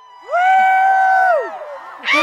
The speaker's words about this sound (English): As the sun slipped more and more behind the moon, the revelers whooped and screamed. A black shadow zoomed across the deep valley, and people exclaimed as they took off their glasses.